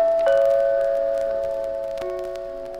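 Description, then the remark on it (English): A doorbell, pressed by a finger at the apartment of Mr. Clark Standish at 6666 Park Avenue, rings out with a sustained, ringing tone, then sounds again about two seconds later, each strike fading slowly, with no talking. “You stick your finger on the doorbell.”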